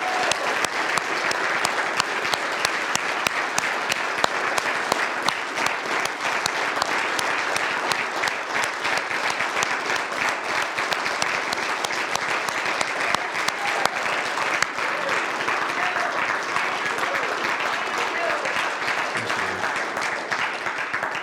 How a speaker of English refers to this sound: And with those of you who served in the military, would you remain standing, and everybody else, you may be seated. Let's give them a round of applause and our complete gratitude and thanks.